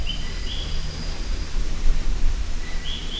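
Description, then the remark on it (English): Brief, high-pitched trills of captive phantasmal poison frogs in the Tropical Rotunda of a botanical garden chirp in two short bursts, one near the start and one at the end, rising faintly above a steady, broad hiss of background noise. “Here we have phantasmal poison frogs. They're not poisonous in captivity. They're the ones you can hear, like the kind of trill sound.”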